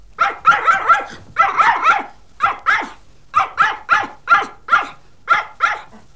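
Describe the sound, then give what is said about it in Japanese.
A dog barks repeatedly and sharply, with quick clusters of barks at first and then a steady series of single barks, loud, with no talking. “あたり、犬さんね。”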